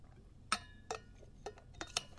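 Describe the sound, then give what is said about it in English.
Someone takes a sip of a drink: a handful of soft, sharp clinks and taps from a glass or mug being handled, spaced unevenly over two seconds, quiet and with no talking. “I'm going to take a sip for my scratchy throat, and then we'll continue with this date in history.”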